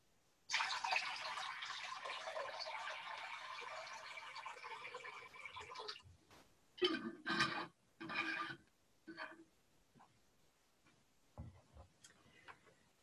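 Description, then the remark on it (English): Water collected at a drive-through water communion service pours steadily from a big jar for about five seconds, then comes in several short splashing bursts and trickles before the flow tapers off to drips. “Next, I will add all of the water that was collected at our drive-through water communion service.”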